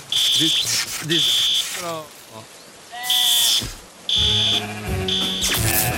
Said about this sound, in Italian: Te l'ho detto che spruzzavi troppo. È partito l'allarme antincendio adesso.